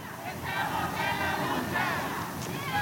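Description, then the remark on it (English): Several hundred people crowded into a street in an industrial part of Tacoma, Washington, on a rainy Saturday roar and chant together, a dense wash of many voices shouting at once, steady and loud throughout with rising cheers. “Despite the weather, several hundred people crowd into a street in an industrial part of town.”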